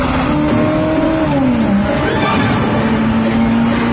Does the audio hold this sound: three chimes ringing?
no